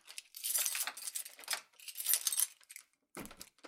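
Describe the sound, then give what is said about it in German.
Keys jingle and rattle in two bright, metallic bursts, then a short, heavier clunk follows after a brief pause, like a key turning in an apartment door lock. No voices are heard. “Brussier sperrte seine Wohnung auf.”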